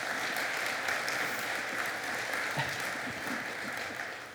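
A crowd claps steadily for several seconds, a dense, even patter of many hands that holds at a fairly constant level before easing slightly at the end.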